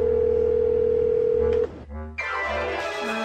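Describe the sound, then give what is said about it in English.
A steady electronic ringing tone of an outgoing phone call hums for about a second and a half, cuts out briefly, then a fuller buzzing tone resumes, clear with no voices. “So it's time to venture into uncharted territory by making an actual phone call.”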